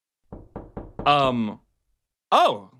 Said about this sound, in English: Who's knocking? Who's What's that? Someone's knocking.